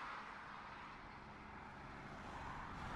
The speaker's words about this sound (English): Watch out! There's a taxi coming! That taxi is on the wrong side of the road.